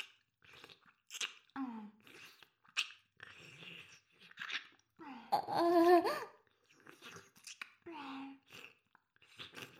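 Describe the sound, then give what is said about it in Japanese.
Wet mouth sounds, like slow ear licking, come in a series of soft smacking and slurping bursts, with brief breathy vocal sighs mixed in. “耳を舐められるのってこんなに。”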